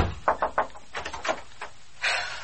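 A plaster bust, a statue in a house, topples and breaks: a run of sharp, hollow knocks and clatters, then a brighter crunching burst of breakage at the end. Fairly quiet, with no voices.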